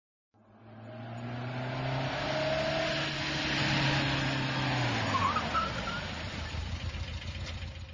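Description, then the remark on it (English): A car engine revs steadily as an engineer drives away to work, the pitch slowly dropping, with faint tire noise and rumble continuing to the end; no one speaks. “He goes to work by car.”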